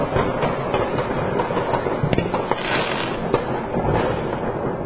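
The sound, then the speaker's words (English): Fireworks going off outside at 11:59 p.m., the last minute of 2025, a steady rumble of overlapping pops and crackles with a few sharper bangs standing out, sounding somewhat muffled, with no one talking. “Lights, little explosions of various sorts.”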